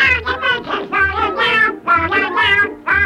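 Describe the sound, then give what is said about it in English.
Squawky cartoon duck voices of Donald Duck's three nephews sing the nursery rhyme London Bridge in a bouncy, even rhythm: nasal, buzzy, high-pitched syllables in short, loud phrases with brief breaks between them. “And here they are singing London Bridge.”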